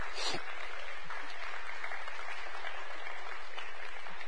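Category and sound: crowd, round of applause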